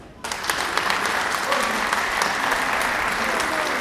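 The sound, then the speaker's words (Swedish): Loud, sustained applause from an audience in Tyresö centrum after Mattias Tegner's speech bursts in suddenly and holds at a steady level, a dense crackle of many clapping hands with no pauses. “Nu har alltså Mattias Tegner hållit sitt tal här i Tyresö centrum och han får stora applåder.”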